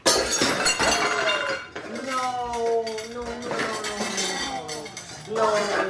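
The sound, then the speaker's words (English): A glass bowl shatters with a loud crash and scattered clinking pieces, followed by a raised, wavering voice that carries on over the last few seconds. “I broke Mom's bowl.”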